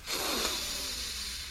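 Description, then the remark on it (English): A long, deep breath drawn in through the nose as part of a breathing exercise, a steady airy hiss lasting over a second, fairly quiet, with no talking. “You're breathing through your nose.”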